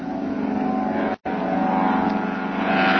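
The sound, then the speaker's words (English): A seaplane engine roars loudly and steadily as the plane takes off from the water and heads toward the trees on the other side, sustained, with a brief cut partway through and the drone swelling slightly at the end. “There he goes. He's off the water. Heading straight for the trees on the other side there.”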